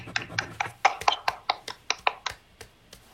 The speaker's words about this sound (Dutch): Ja, doe hem met een applaus.